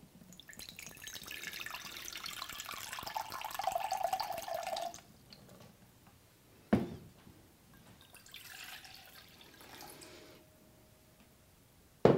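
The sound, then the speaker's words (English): Water runs steadily from a tap into a cup for several seconds with a rising fill tone, stops, then a clink and some drips and trickling follow, moderately loud. “So I think we said we need a cup of water.”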